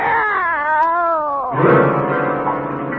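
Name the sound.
cats meowing and caterwauling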